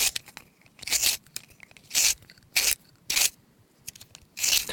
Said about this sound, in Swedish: Men tänk på en pennvässa, det är väl aldrig man hör någon vässa en penna numera.